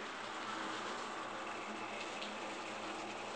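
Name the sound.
shower water running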